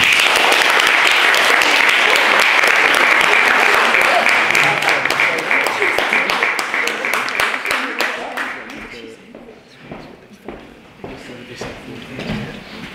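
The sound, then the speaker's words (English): Loud, dense applause from a debate audience for eight speakers, a steady wash of many hands clapping that thins out after about eight seconds into scattered individual claps. “I think all of them deserve another massive round of applause.”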